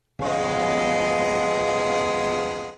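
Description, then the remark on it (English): A single sustained train horn blast, loud, holding steady for over two seconds with rich stacked tones before cutting off, with no talking. “Hockey Horn, Train Horn, who cares?”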